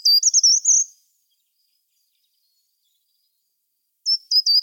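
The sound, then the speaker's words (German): A short-toed treecreeper sings two brief, high-pitched phrases of quick, bumpy notes, separated by a few seconds of silence. The song is clear, with no talking. “Wir fangen mal an mit dem Gesang vom Gartenbaumläufer.”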